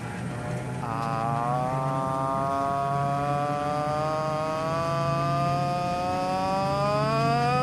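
A loud, steady airplane engine drones throughout, a buzzing propeller-like hum whose pitch slowly sinks, heard alone with no voices.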